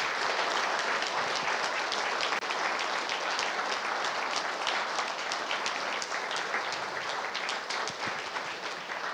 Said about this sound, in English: They're all special. We're applauding God who by his grace has given us one to another. So would you just do that? Could we just put our hands together and bless the Lord for one another?